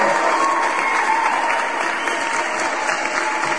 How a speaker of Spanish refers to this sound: Eso se merece, por supuesto, que se merece un aplauso, ¿no?